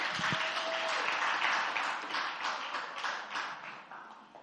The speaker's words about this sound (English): Yes, thank you, worship team. Give them another big hand clap.